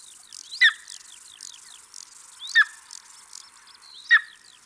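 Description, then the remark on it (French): An eagle, a bird with a wingspan of more than 2 metres, cries out three times, sharp and piercing, at roughly even intervals, over a steady background of smaller birds chirping and insects buzzing outdoors. “Il mesure plus de 2 mètres d'envergure. Voici son cri.”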